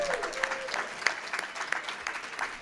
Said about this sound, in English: We'd also like to thank our sponsor, oppmusic.org. Let's hear a round of applause for them.